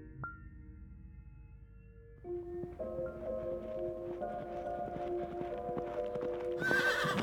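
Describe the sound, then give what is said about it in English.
A merchant's horse, coming home alone with empty saddlebags, whinnies over a steady clip-clop of hooves, growing a little louder toward the end, with a sharper snort-like burst near the close and no talking. “When their father's horse came home alone, the merchant's children were annoyed.”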